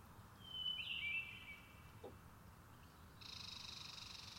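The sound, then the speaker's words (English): Birds sing from a tree in thin, high chirps: a quick trilling phrase early on, then a steadier buzzing note near the end, fairly soft over a low outdoor hum. “Yes, those are some really nice birds in the tree.”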